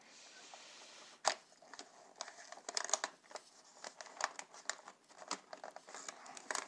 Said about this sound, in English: Oh, now this is a good paper jam. It has wrapped itself. Wow, that's quite impressive actually.